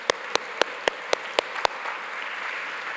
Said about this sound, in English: Yeah, let's clap for that.